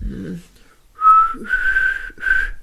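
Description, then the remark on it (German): A weak, breathy lip whistle: a short voice at first, then three wavering whistled tones around a single pitch, airy and unsteady. “Ja, aber immer noch Geräusche so Lieder pfeifen, sodass man sie auch klingt und nicht immer so, das war jetzt so mehr Pfeifen aus dem letzten Loch.”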